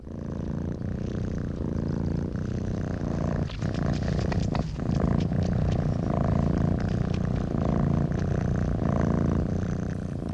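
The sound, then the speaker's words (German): Cats purring, from a 1972 sound art composition made of cat purring, rumble continuously for the whole stretch, low and warm with a soft rhythmic pulse and no voices. “Schließlich haben wir auch noch den Gesang chinesischer Vögel und das beruhigende Schnurren von Katzen im Programm.”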